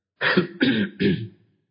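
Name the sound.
throat clearing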